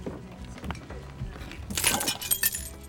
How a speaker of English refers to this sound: As Ben lifts his glass, it shatters.